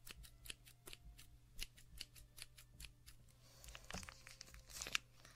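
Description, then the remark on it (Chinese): Scissors snip repeatedly through a milk package, cutting an opening in a bag of milk so it can be drunk. A quick, irregular run of crisp cuts mixed with soft crinkling and tearing, with no one speaking. “解开一个口，我们要开始喝牛奶了”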